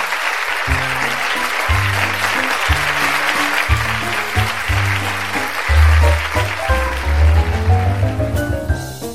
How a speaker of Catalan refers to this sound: Doncs la cosa es complica, perquè ara el senyor Agustí ja presenta en Genís. Rebem amb un fort aplaudiment en Genís el mag i la Sílvia.